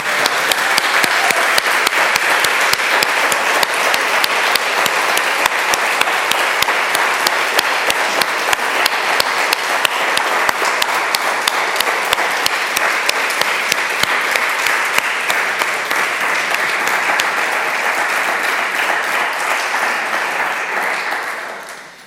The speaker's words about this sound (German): einfach einen kleinen Applaus an diese Gastgeber.